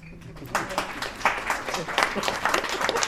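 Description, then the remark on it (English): An audience breaks into applause for Cedar Cove star Andy McDowell: many hands clapping in a dense, crackling wash that swells after a brief quiet start and stays steady and fairly loud throughout. “Can we have a little applause?”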